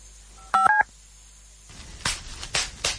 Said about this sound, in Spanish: ¿Lo oyes? Sí, papel de burbujas. Es escucharlo y querer explotar una burbuja, otra y otra sin parar.